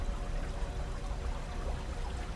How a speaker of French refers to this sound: Vous entendez la rivière à quelques mètres de vous.